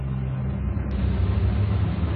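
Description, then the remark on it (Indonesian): An aquarium water pump runs with a steady, low mechanical hum and a soft churning drone, unchanging in level throughout, with no voices. “Ya, hanya terdengar suara dari mesin air akuarium.”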